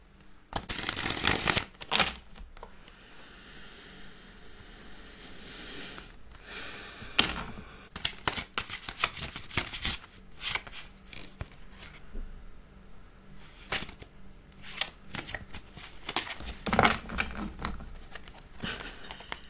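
Tarot cards being shuffled by hand for a daily reading, with repeated bursts of riffling and sliding, soft patters and crisp snaps scattered over about twenty seconds, no voices.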